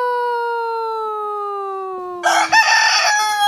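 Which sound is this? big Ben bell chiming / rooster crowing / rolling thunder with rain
rooster crowing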